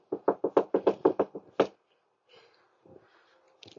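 A rapid burst of about eight loud, close knocks on a door, a brief pause, one more sharp knock, then near silence with faint, muffled shuffling.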